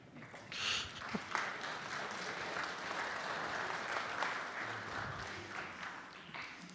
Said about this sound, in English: The lengths I'll go to get people to applaud a sermon. It's amazing.